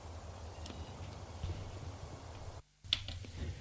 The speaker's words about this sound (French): On a frappé à la porte.